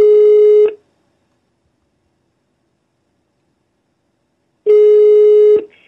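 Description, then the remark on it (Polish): A phone call's ringing tone: a steady electronic beep cut off at the start, then about four seconds of silence before the next long beep. Clear and fairly loud, no voices. “No zajebiście i dzwoni.”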